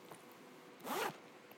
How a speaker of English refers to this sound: Now, take your pencil case. Your pencil case. Open it.